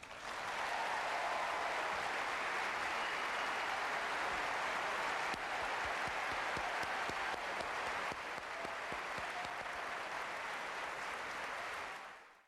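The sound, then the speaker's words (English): Sustained audience applause for a singer, Ireland's first Eurovision winner, a dense wash of many hands clapping at steady loudness for about twelve seconds before quickly fading out. No voices stand out. “We couldn't get to hear the first part, but I'm sure you heard the applause for ….”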